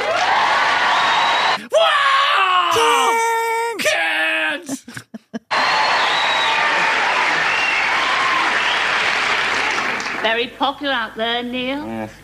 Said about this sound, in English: Every time I say the word Kent, in Kent, I get a round of applause.